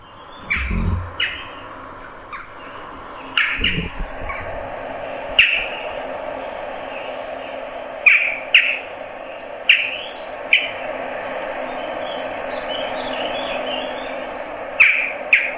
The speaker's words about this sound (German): Das ist die Dohle, und da haben auch viele in Holland immer gedacht, das wären Möwen.